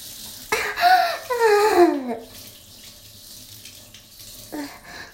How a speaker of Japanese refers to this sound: ああ、おしっこ出そうや。おしっこ出そう。おしっこするよ。おしっこ出るよ。出る出る出る出る。おしっこ出そう。